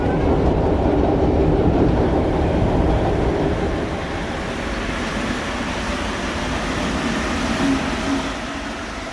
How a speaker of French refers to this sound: Métro, chef de train qui s'embête et joue sur sa trompette un petit air rigolo, c'est le métro.